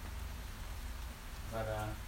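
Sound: rain falling outside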